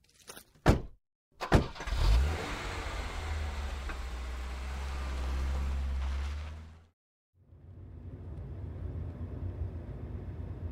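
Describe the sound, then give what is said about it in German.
Two sharp thumps, like car doors shutting, after bags are loaded into the car, then an engine turns over and settles into a steady rumble; after a short break, continuous road noise follows as the car drives away. “So, ich packe meine Taschen ins Auto rein. Gut, fahren wir.”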